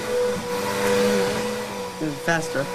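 vacuum cleaner running

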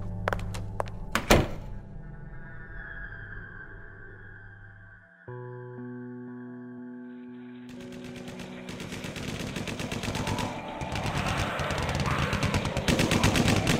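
gunfire

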